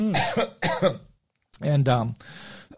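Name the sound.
coughing fit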